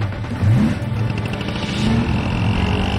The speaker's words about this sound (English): The car pulls out and gives chase through a square.